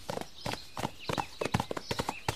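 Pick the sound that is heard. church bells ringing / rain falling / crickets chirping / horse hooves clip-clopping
horse hooves clip-clopping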